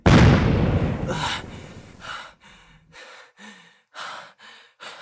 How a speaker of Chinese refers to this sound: 没想到吧，我的青玉靴可以爆炸，玉石在最后救了我一下。